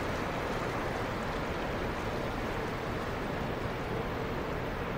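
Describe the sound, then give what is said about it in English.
Steady, rushing water washes continuously around a moving boat at sea, with nothing but water in sight, on a very hot day as the sun starts to go down; a dense hiss and churn, fairly loud throughout with no voices. “But again, nothing but water as far as the eye can see”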